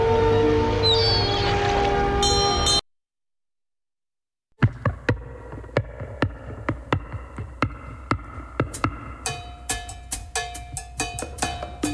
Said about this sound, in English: We are getting to that point where we've got about 15 seconds here, and I think I hear the sound of the foghorn and the lights coming.